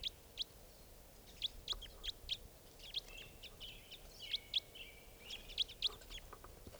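Repeated sharp, high-pitched bird calls from a Type 4 bird, number 2, as it flies up to another tree: short chip-like notes given in an irregular series of about a dozen, fairly loud over a quiet background hiss with no talking.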